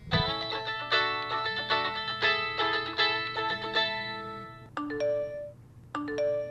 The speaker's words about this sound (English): We all know these sounds and could probably respond to them in our sleep. Phone calls, texts, emails, it's never ending.